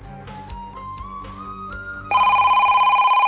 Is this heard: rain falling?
no